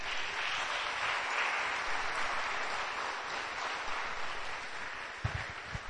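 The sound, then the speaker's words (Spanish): A crowd applauds steadily as an applause given to God, a dense wash of many hands clapping at an even loudness for several seconds, with a few sharper claps standing out near the end. “Damos un aplauso a Dios, por favor.”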